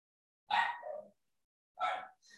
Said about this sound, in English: That differs in that when I look at the unimolecular, we have to put my dogs in a different spot so that they're not so barking.